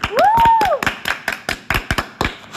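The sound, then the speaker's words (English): Brief applause from a small group for two guests: irregular, sharp handclaps over a couple of seconds, opening with a rising-and-falling whistle or whoop. “So a big applause to our two guests.”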